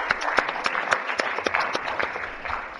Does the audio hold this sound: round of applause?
yes